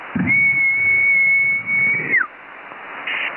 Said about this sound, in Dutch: Ik weet niet hoe ver je nog naar boven kan fluiten.